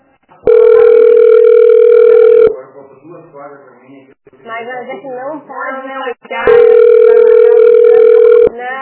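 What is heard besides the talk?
telephone ringing tone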